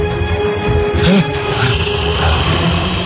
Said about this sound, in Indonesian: terdengar suara geraman yang sangat berat.